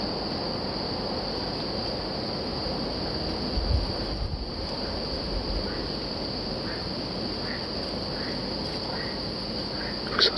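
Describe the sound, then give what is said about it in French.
Frogs croak at night in a dense, steady chorus that fills the background, with faint, brief higher chirps scattered through the second half and no voices. “c'est les grenouilles.”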